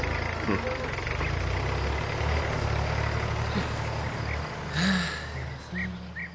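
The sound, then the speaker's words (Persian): A heavy tractor engine chugs steadily throughout, a low continuous rumble with a rough, throbbing idle and occasional faint higher clanks and whines rising over it. “فهمیدن کلمه‌ای که بین‌المللی است طبیعتاً کار آسانی است، به خصوص که همراه با شنیدن این کلمه صدای مربوط به آن را نیز بشنویم، مثلا صدای یک تراکتور.”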